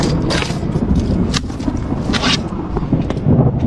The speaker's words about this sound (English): Whoa, we got some thunder happening. Whoa, over here, man.